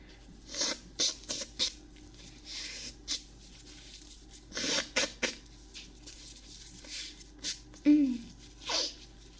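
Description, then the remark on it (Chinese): A sneeze followed by several short, breathy bursts of nose blowing, close and fairly loud, with brief pauses between the sharp hissing gusts. “打个喷嚏，突然想擤鼻涕。”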